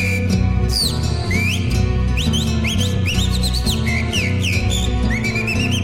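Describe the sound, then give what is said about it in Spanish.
A calandria mockingbird whistles a lively song of quick, varied, rising and falling notes, clear, running steadily over a constant low musical backing. “Silba la calandria.”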